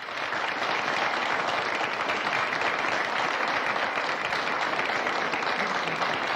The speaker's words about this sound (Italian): L'applauso era per me.